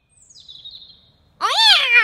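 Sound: cat meowing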